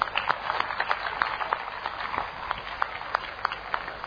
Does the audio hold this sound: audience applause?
yes